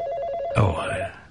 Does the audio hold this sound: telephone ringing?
yes